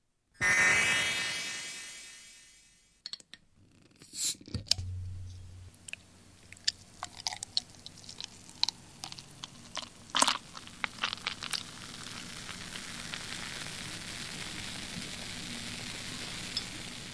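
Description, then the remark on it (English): A big black oatmeal beer is poured from a bottle into a glass and recorded with a dedicated beer mic: a rushing pour that tapers off, then a long stretch of irregular crackling and popping as the foam fizzes and settles, with no talking. “I don't know if you could tell from the sound of the beer mic there, but that was a really insanely smooth pour.”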